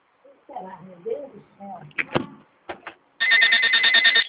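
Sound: telephone ringing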